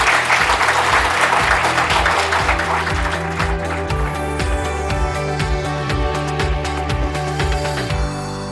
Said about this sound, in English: Can we get a round of applause for them?